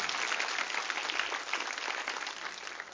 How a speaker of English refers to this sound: Come on, give the Lord a good clap off. Do that, come on.